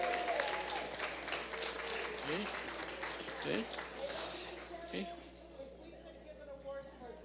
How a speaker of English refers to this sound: How about a big round of applause for these 6?